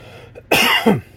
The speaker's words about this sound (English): Again, I'm sorry. I'm just recovering from the flu. Pardon me with occasional cough. I will try my best to cover the microphone.